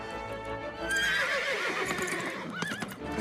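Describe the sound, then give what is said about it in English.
Horses whinny loudly as riders mount them, a high wavering neigh rising over a busy scuffle of hooves clopping and stamping, with no voices. “Dominic and Julian mount their horses.”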